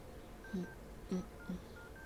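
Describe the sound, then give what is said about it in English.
Three short electronic keypad beeps at uneven intervals as digits of a number are entered on a phone, sounding fairly soft against a faint steady background hum with no one speaking. “Let me go to your phone. Right here.”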